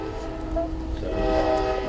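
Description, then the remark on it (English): A train whistle sounds in a long, steady, sustained tone, swelling slightly louder partway through over a low rumbling background, with no one talking. “Now that brought a whistle.”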